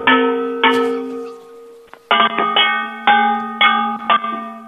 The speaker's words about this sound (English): Can you hear that? Yeah. So can we just... I've got a device hooked up to the phone. I'm measuring the frequency that the bangs make to make sure it's real copper.